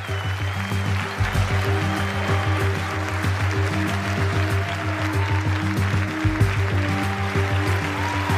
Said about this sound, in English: So could I ask the seven global finalists to join me on stage, please? Can we get a big round of applause for the seven global finalists?